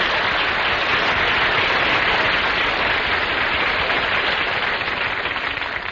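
Loud, sustained applause from a large studio audience giving Don Wilson a big hand, a dense wash of many hands clapping that holds steady for several seconds before easing slightly at the end, with no voices over it.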